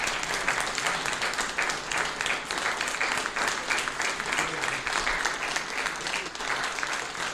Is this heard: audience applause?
yes